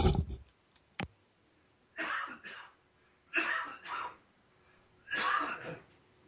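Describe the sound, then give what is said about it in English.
A muffled coughing fit: several harsh coughs in clustered bursts, roughly paired, with short pauses and a sharp click between, no talking. “Excuse me, I just tried not to share that coughing fit with you.”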